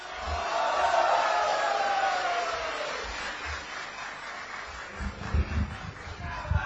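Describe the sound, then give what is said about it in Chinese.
Sustained audience applause with crowd cheering at a xiangsheng (crosstalk) show as performers Yue Yunpeng and Sun Yue come on, a high swell of voices riding over it in the first few seconds, then thinning into steadier clapping with a few heavier thumps toward the end. “谢谢朋友们的热情 掌声。”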